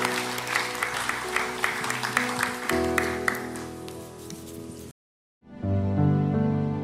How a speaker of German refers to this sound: Und der Applaus ist jetzt für euch. Dankeschön.